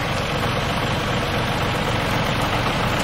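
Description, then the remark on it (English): A heavy tractor engine idles steadily, a loud continuous low rumble with a rattling vibration that holds even throughout, no voices. “Try the engine. Engine.”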